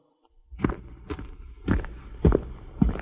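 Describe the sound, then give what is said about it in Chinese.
Five steady footsteps thud along at an even walking pace, each step a soft, low impact over a faint background hush, with no voices. “树听见摩斯叔叔的脚步声，他的枝叶一直向广阔的天空伸展。”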